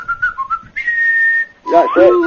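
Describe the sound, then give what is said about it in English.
A person whistles a movie theme tune: a few quick short notes, then one long held note, followed by a brief burst of voice at the end. “No, they didn't whistle it, but no.”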